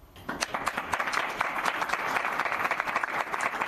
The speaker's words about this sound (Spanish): Y ovacionado y entre aplausos ha sido despedido también por la prensa de Madrid.